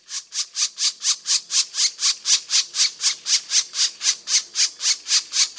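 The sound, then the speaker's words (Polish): A black woodpecker's begging call: a fast, steady series of harsh, raspy squawks, about four per second, loud, with no other sounds. “Dodajmy do tego jeszcze głos żebrzący.”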